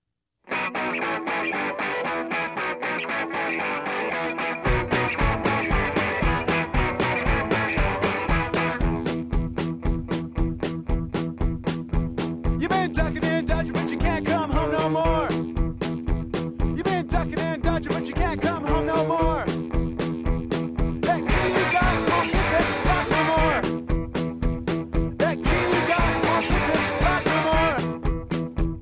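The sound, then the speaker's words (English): A punk rock song opens with a few seconds of fuzzy, rapidly strummed electric guitar before pounding drums and bass crash in, with shouted vocals surging over the loud, driving band. “The rapidly strummed electric guitars, the slamming drums, the jittery bass, the shouted vocals.”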